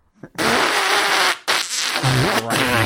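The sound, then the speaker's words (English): Someone blows loud raspberries with their mouth to imitate farting: a long sputtering burst, a short break, then another buzzy, wet stretch that drops to a low rumbling flutter. “If Dad wants to fart, all right, you're eating these beans.”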